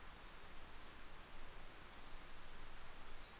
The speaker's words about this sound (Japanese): 耳を澄ませば、遠くで虫の声、木々が風に揺れる音、近くには川のせせらぎ音、夏の音と匂いがいっぱい。